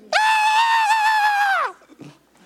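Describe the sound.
A voice imitates a child's shrill scream, one sustained high-pitched wail lasting about a second and a half, loud, then cutting off into quiet.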